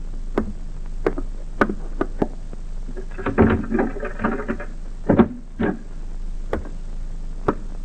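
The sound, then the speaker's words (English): Slow, steady footsteps of a superintendent walking down a corridor of a private sanitarium in a wooded suburban area at about 8 in the evening, on his way to visit a patient, click across a hard floor at an even pace, broken midway by a brief burst of rattling and clatter before the measured steps resume. No one speaks. “Superintendent Alfred Foster walks down the corridor on his way to visit one of his patients”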